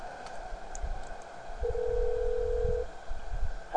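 A single burst of an outgoing phone call's ringing tone, a steady electronic purr lasting just over a second, heard over a quiet, low background rumble with no one speaking.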